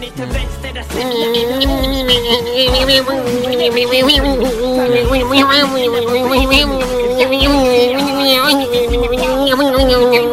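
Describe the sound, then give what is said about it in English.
A nasal, buzzing voice drones almost without pause, its pitch wobbling like a wasp trapped against a window blind, loud over a steady low thumping beat. “I always think he sounds like a sort of wasp trapped behind a blind.”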